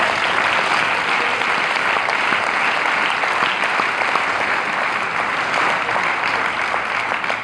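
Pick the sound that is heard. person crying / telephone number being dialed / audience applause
audience applause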